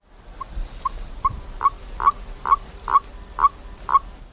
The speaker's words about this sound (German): Bei den Kröten quaken nur die Männchen. Man bezeichnet dieses Quaken als Abwehrton. Die Männchen geben diese Laute von sich, wenn sie von einem anderen Männchen besprungen werden.